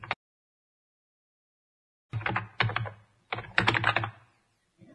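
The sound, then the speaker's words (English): Clattering bursts of computer keyboard typing as homework is written in a new document, several quick runs of keystrokes separated by short pauses after a brief opening tap and a stretch of silence. “Next, you write your homework in the new document. Use the keyboard.”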